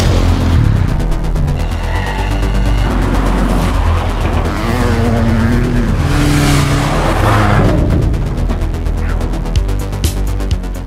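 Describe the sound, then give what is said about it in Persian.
A car engine roars and revs hard as the vehicle speeds along, loud, with rising pitch sweeps and brief tire squeals, no voices. “یکم بهتر رانندگی کن، اینجا شبیه چرخ و فلک شده. برو برو برو.”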